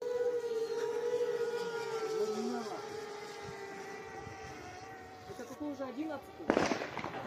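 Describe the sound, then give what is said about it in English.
Video of a drone attack, with drones launched from parked containers bombing airfields in Russia: a steady, wavering siren drones throughout with muffled voices underneath, then a single sharp, loud explosion bursts out near the end before fading. “Remember, these are drones coming out of containers that were parked nearby, then flying through the air and then bombing airfields in Russia.”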